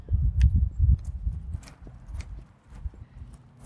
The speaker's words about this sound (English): Okay, we'll take you on a little tour. We'll start walking. Let's walk to one of my favorite spots where we're going to talk about our Try This at Home.